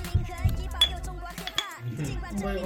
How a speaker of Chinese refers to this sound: 喝酒， 对， 来干杯！ 来 。